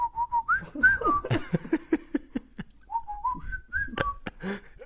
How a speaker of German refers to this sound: Du kannst nicht mal pfeifen, ey. Ich sag, ich kann es nicht besser, aber... Doch, ich kann ein bisschen pfeifen, kann ich.